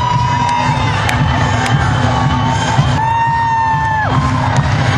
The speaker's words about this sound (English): And as you can hear, everybody's screaming at the top of their lungs.